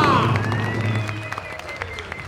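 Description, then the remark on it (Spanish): An audience applauds, a dense spatter of claps that starts loud and slowly thins out, with a sustained tonal sound and low hum running underneath. “Por favor, un aplauso.”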